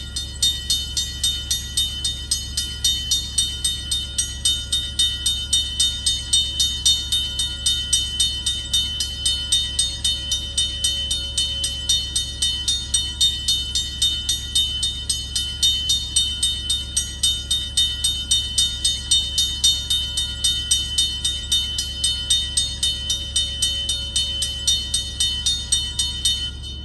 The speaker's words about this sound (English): And every other imaginable obnoxious train noise you can think of, including railroad crossing bells.